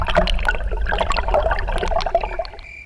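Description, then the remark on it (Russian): Water flowing down from the Ural Mountains in the Cis-Ural tundra gurgles steadily, a busy splashing stream with bright bubbling notes that continues throughout before easing off at the very end; no voices. “Эта вода течет с Уральских гор и насыщена различными полезными минералами.”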